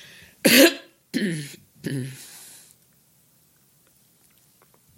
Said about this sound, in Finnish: Anteeksi, tämä köhäisy.